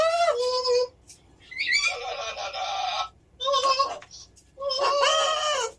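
A bird squawks loudly in four harsh, raspy bursts separated by short pauses, each call rich and grating, with no talking around it.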